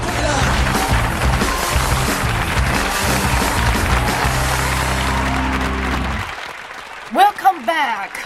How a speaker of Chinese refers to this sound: 迎着这个掌声哈，我们回到我们的直播现场。